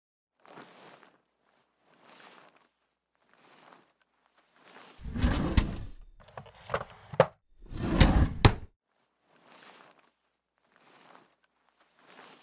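Soft, evenly spaced footsteps lead to a loud, close burst of wooden rattling and sliding with sharp clicks, like a drawer being pulled open, then the quiet steps continue.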